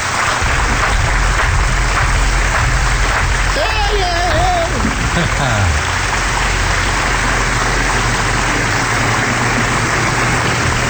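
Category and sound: crowd, applause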